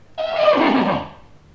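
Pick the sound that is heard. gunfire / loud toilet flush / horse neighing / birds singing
horse neighing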